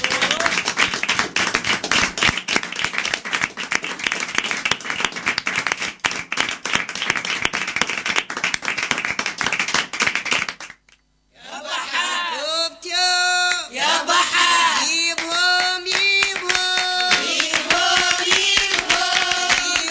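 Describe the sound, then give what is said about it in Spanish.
A crowd applauds the visiting friends from Sagrada Familia on the Radio Nicosia programme at Contrabanda FM, with dense, steady clapping for about ten seconds, then the applause cuts off abruptly, and after a brief silence different tonal sounds take over. “Un aplauso para ellos.”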